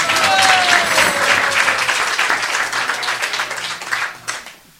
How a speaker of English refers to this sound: So please, one applause for my help.